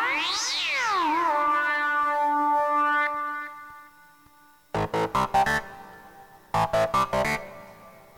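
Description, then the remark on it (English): A long, wavering cat meow glides up and down and trails off slowly, followed by two quick rhythmic bursts of short, loud pulsing sounds with a pause between them. “Good kitty likes it.”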